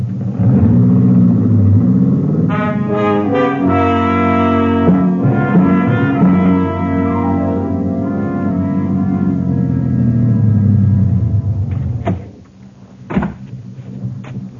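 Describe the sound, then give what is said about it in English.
A car engine rumbles loudly and steadily, its tone shifting as it approaches and turns into a lane, then cuts off and is followed by a couple of sharp thumps like a door closing. “Somebody's coming. It's a car.”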